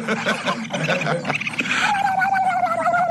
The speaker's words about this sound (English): That's a breakfast sausage commercial made the Johnsonville way. I have no idea why, but it busted me up. And that last part is the turkey laughing. Like they cut to the turkey going, blah, blah, blah, blah, blah.